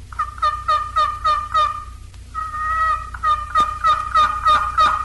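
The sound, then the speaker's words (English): A box call imitates the higher-pitched yelps of an old hen turkey, with two runs of rhythmic, raspy yelps, loud, separated by a brief pause and a longer drawn note, over a faint low hum. “Next are the higher-pitched yelps of the old hen made on the box collar.”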